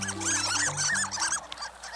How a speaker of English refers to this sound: Some ducks don't sound like ducks at all. Some, like the Harlequin, squeak, earning them the nickname of sea mice.